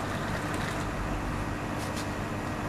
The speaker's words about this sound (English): Ah, the water's boiling. Now, pick up the kettle and pour the water into the cup. That's it. Pour the water into the cup.